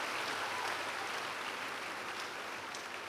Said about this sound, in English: You can clap well. Celebrate God. It's good to celebrate God.